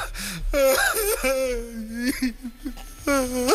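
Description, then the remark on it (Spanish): A voice imitates crying as a demonstration, with a series of high, wavering whimpering wails and sobbing gasps, fairly loud, in about four drawn-out bursts with no words. “Por ejemplo, mira, voy a hacerlo yo, ¿vale? A ver cómo lloro yo, ¿vale? Venga, llora.”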